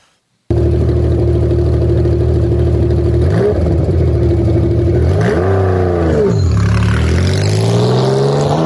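After a brief silence, the engine of Newman's 2000 Porsche Cup race car bursts to life and idles with a loud, rough rumble, then gets revved hard a couple of times, pitch swooping up and back down. No voices.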